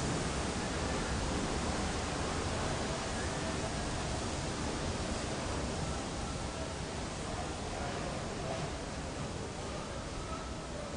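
A steady, dense, loud hiss of pressurized water spraying continuously at a car wash as a car is being washed, filling the whole clip without pause.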